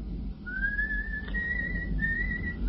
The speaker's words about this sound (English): The coachman is whistling. You cannot hear him